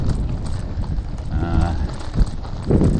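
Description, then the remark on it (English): A couple of brolga cranes, disturbed as the sun goes down, give a brief, buzzy trumpeting call with a rough harmonic tone, heard over a steady low rumble of wind. Nobody speaks. “And the other highlight was as the sun started to go down, I disturbed a couple of brolgers. They're birds, flightless birds, just off to the left.”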